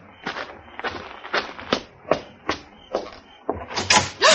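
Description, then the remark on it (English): An unlocked motel room door being opened: a string of sharp clicks and wooden thumps, roughly one every half second, rising to a louder, rattling burst at the end. No one speaks. “I should have knocked.”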